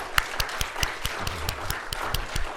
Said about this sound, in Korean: 이렇게 밖에 야외 활동할 수 있는 이런 시원한 날씨를 허락하신 우리 하나님께 우리 영광의 박수를 한번 같이 드릴까요?